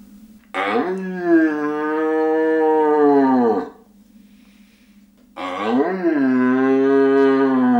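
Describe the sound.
A person imitates the roar of a young red deer stag seeking hinds, as a hunting call: two long, drawn-out bellowing calls, each rising then holding steady, loud, separated by a short pause.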